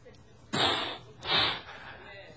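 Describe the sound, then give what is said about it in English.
A person mimics an angry bull with two forceful, breathy snorts in quick succession, fairly loud, each a harsh burst of air lasting about half a second. “I want you to think of a mad bull. You know how they will snort?”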